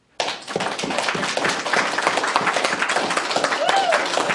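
A crowd bursts into sustained, loud applause, many hands clapping in a dense, steady wash that stays strong throughout, with a faint cheer rising near the end.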